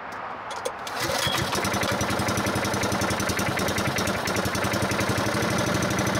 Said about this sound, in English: With the ignition on, Johnny could start the engine, which sprang into life with ease.